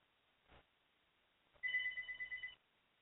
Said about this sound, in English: And see, you're going to hear the house phone ringing.